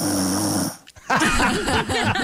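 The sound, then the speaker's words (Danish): A dog named Jojo snores in two raspy, breathy stretches separated by a short pause, the sound thin and hissy rather than deep, with no one speaking. “Det er Jojo, der snorker.”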